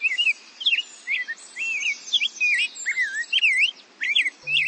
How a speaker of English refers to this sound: Finally, the cheerful, bubbly notes of an ultramarine grosbeak are a reminder that our spring and the arrival of birds like the rose-breasted grosbeak isn't too far off.